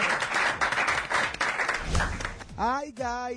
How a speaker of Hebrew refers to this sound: תנו לו כפיים, תנו לו כפיים.